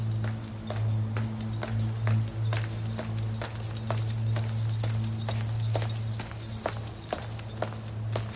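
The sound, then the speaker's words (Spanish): Steady footsteps of a girl walking from the door inside a church click across a hard floor at an even walking pace, sharp, over a constant low hum with no one speaking. “La chica camina desde la puerta.”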